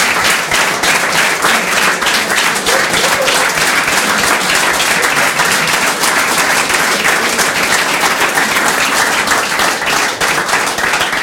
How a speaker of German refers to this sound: Also vielen Dank für diesen warmen Applaus, für den warmen Empfang hier im Schillergarten.